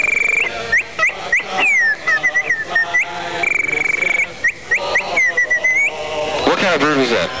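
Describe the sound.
A person whistles a rapid run of bird-call imitations at a New Year's Eve party at radio station WPGC: chirps, trills and sliding up-and-down notes in quick bursts, high and bright, ending with warbling swoops.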